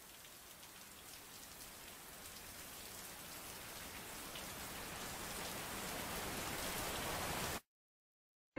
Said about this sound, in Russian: Причина, по которой я не слышу ее песню, это сильный дождь.